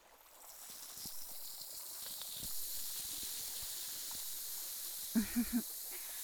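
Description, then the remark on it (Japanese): A steady fizzing hiss of bubbly liquid being poured runs throughout, soft but constant, with three short low tonal blips near the end. “シュワシュワ。ぬるぬるの後はシュワシュワだよ。 というわけで流します。”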